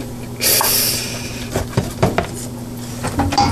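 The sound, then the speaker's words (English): Wet peeling of skin off small chicken feet scalded in boiling water: a brief hissing tear, then several short squelchy crackles and clicks at an uneven pace, with no one talking. “And all this, the thing's coming apart so easily in terms of the peeling the feet and all that, that's all because it just got dipped in that boiling water?”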